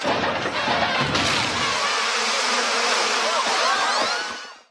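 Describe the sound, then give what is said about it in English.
A dense, loud swarm of killer bees from a box that cracked open in a cartoon buzzes continuously, many overlapping wavering drones filling the air for several seconds before cutting off abruptly. “That buzzing sound at the end is, well, okay, the box that cracked open in the cartoon there was actually labeled killer bees, not murder hornets.”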